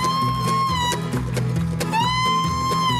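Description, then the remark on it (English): A loud imitation of a steer lowing: drawn-out, wavering moo-like tones that bend in pitch, carried over a steady, chugging rhythmic pulse with sharp clicks, and no talking. “That was a steer.”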